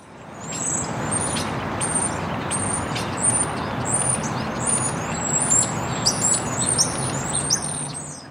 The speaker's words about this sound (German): Das sind aber keine heimischen Vögel hier vor Deutschland. Nee, aber auch keine marsianischen.